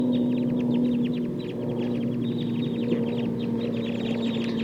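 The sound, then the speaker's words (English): A wild flock of about 11 birds calls continuously in overlapping, rapid chatter and clucks, dense and busy for the whole stretch, sounding as if getting ready to fly, over a steady low hum with no talking. “So recording the wild flock now. Sounds like they're getting ready to fly.”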